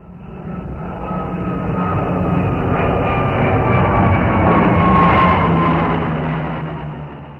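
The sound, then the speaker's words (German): An airplane flying to the Mediterranean passes, its engine roar building to a loud, steady drone with a whining tone, then slowly fading as it moves away. No voices are heard. “Als erstes flogen sie mit dem Flugzeug bis zum Mittelmeer.”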